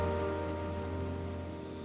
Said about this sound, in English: Think of the rain, waking the seed from its slumber.